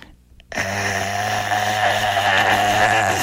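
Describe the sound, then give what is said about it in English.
After a brief silence, a voice imitates a snake with a loud, rough, raspy drone that holds steady for almost three seconds, buzzing and snore-like with a low, throaty rattle. “And that snake was making a noise, and it sounded something like this.”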